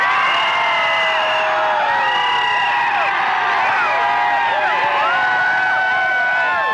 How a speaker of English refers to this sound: People, I mean, the streets are totally blocked, impassable. There are fans everywhere. They're dancing and cheering. Let's just, if I may, hold the microphone in the air. Let's just listen for a second or two to the sounds.